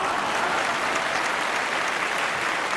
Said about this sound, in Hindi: Vision से अभी रुकिएगा, तालियां आएंगी।